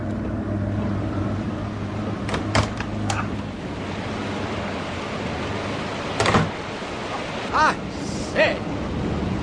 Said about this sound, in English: Oh, we must cross over the Great Leam here by the old bank sluice. We must be just coming up to it. By Jove, there's a lot of water coming through there.